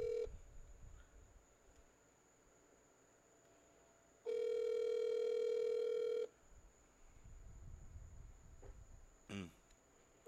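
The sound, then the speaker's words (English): A phone line rings back during an outgoing call to a friend: a single loud, steady electronic ring tone lasting about two seconds, with low background hiss before and after and a short click near the end. “hates when we call people and they don't answer because he's like, especially when we talk over, he can't edit it out.”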